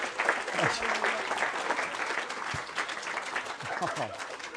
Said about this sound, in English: You give them a nice round of applause there, brothers and sisters. Thank you very much.